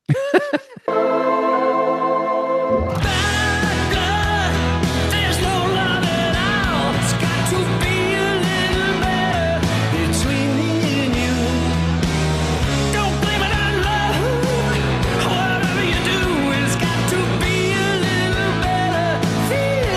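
A recorded song plays loud and continuous. A brief sustained tonal intro gives way after a few seconds to a full band with steady drums, bass and layered melody running to the end.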